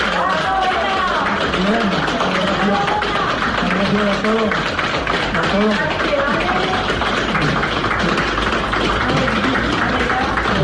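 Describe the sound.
Medical staff at Hospital La Plana in Villarreal applaud steadily as a coronavirus patient leaves the hospital after intensive care, and he applauds them back, a dense run of clapping that holds at the same level throughout, with voices calling out and talking over it.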